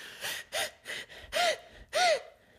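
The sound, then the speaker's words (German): A voice imitates short, tense panting, breathing growing shorter while straining toward orgasm during masturbation: five or six quick, breathy gasps in an uneven rhythm, fairly loud, with no speech. “Und dann verkrampfst du den Körper und dann wird die Atmung immer kürzer, um zu diesem Orgasmus so hinzukrampfen und zu hecheln.”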